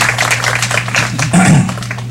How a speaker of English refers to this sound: You guys have been wonderful. You guys have been awesome. We just love being with you. So let's give them a hand of applause one more time.